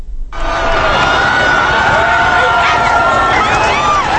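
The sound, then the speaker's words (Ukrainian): A large, excited crowd of Brazilian Catholics roars and cheers continuously to greet Pope Francis arriving in Rio de Janeiro, many voices shouting over one another in a dense, loud outdoor hubbub that starts abruptly and holds steady. “Бразильські католики влаштували емоційну зустріч папі Римському Франциску, який прибув до Ріо-де-Жанейро.”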